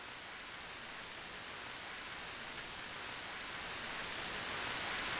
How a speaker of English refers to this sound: This is as much of the air conditioner as I can filter out.